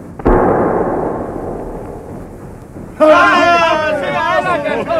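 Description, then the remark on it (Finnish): A single loud blast from a ship's harpoon cannon fired at a creature near the bow cracks out near the start; the shot hits but ricochets off its back. The noisy rumble trails off over a couple of seconds before a strained, wavering voice cuts in loudly. “Se osui. Mutta ammus kimmahti sen selästä.”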